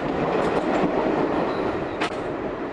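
A Broadway local subway train car rattles loudly along the tracks in a steady roar, with a brief sharp clank near the end; no one speaks.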